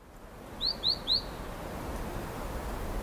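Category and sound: bird, birds chirping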